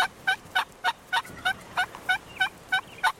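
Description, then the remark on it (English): A wild turkey hen yelps in reply to a tom during the spring mating season, in a steady run of about eleven short, evenly spaced calls, each a clear nasal note, against a quiet background. “If he's lucky, a hen might yelp in reply.”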